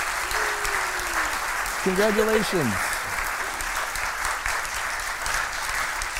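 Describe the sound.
An audience applauds steadily, a dense wash of clapping filling the room for several seconds while a voice briefly speaks over it.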